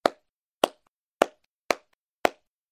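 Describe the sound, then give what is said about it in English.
Five sharp hand claps by a teacher in a clap-counting game, in a steady, evenly spaced rhythm, each a crisp, bright smack with silence between, and no voices. “Listen to the teacher and guess the number of claps.”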